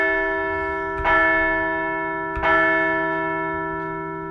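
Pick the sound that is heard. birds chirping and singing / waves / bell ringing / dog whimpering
bell ringing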